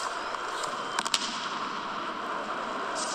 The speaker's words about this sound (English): Speaking of mistakes, that man right there that's sitting up there controlling the fireworks, he just made one, and he's getting booed. He's putting his dunce cap on now.